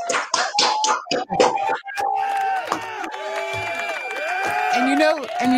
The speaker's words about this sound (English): Give her an applause. Give her big applause. There we go.